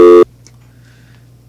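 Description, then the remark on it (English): A brief, loud electronic telephone tone cuts in for a moment as a caller on the Big Orange Philly phone lines hangs up, then drops away to a faint, steady low hum of an open line with no voices. “Looks like Matthew might have hung up on us.”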